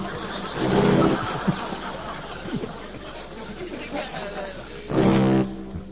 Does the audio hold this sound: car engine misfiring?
yes